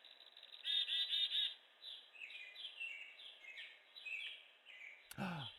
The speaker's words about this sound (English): I know those chirps. You found the chickadees. That I did not. Just like you, they are fictitious. Figments of the imagination. That's a recording.